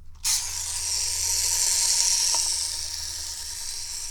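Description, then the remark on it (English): A toy boat's little wind-up outboard motor being wound, heard as a sudden, steady, high-pitched mechanical whirring buzz that carries on evenly for several seconds with no one talking. “Now, the question is, can I wind it up with one hand? This boat has a little wind-up outboard motor.”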